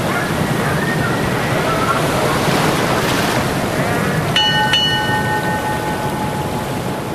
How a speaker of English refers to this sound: We had fine weather until midnight, then got a heavy headwind, and a big sea rose up and made things a bit uncomfortable.